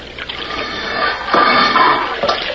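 Water pours and rushes steadily into a flooding trap chamber, a loud, continuous gushing that swells a little partway through. No voices.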